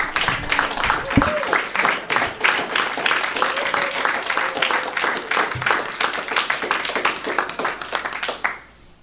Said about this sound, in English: Could we give another big round of applause for these 3 speakers, please?